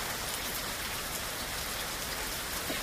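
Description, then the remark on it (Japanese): Steady rain patters on surfaces in a dense, continuous hiss, with soft scattered droplets ticking throughout; even and moderately loud, no voices present. “雨音をもっと聞いてみたいと思った彼は、チャチャに案内をしてもらいながら森の中を二人で散歩することにしました。”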